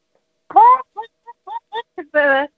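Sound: hen clucking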